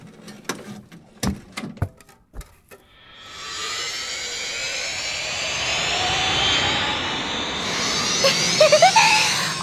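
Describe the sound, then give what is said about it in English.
A few sharp clicks and taps, then a sustained airplane engine roar swells up and holds steady, loud, with a high whine rising near the end. “This is my plane!”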